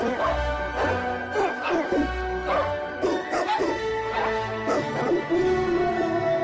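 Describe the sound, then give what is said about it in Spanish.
A dog barks repeatedly in short, sharp, loud bursts over a steady musical backing in a dog food commercial, spaced irregularly across the stretch with a few whimpering yips between them. “Cuando alimentas a tu perro con Doxila se siente invencible.”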